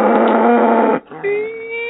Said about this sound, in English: I don't remember which cow noise is possibly on the chopping block, so here's this one.